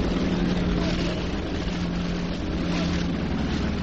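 A subway train rumbles along behind the open bleachers behind center field at a baseball game, a steady, heavy roar that holds at the same loudness throughout, with a low droning hum running underneath the broad rushing noise.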